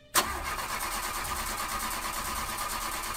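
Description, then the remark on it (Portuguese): A car engine cranks steadily for several seconds as the driver tries to start it, the starter churning in a fast rhythmic grind that never catches into a running idle. Fairly loud, with no voices. “Mas por mais que Júlio tentasse, o carro não dava partida.”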